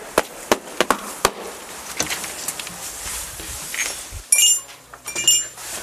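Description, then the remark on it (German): A few sharp clicks and knocks, then the plain doorbell of a role-playing game shop gives a brief, bright, high chime, sounding twice in quick succession over quiet background noise. “Auch mehr so eine unspektakuläre Türklingel, ne?”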